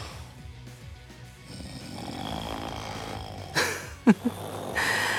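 A person snoring steadily, low rasping breaths with a rhythmic rumble, ending in a couple of sharp snorts and a noisy exhale.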